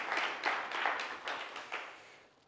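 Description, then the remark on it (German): An audience applauds a guest on a new stage in a brief burst of dense, crackling clapping that swells in a few waves and then fades out. No one speaks over it. “Applaus.”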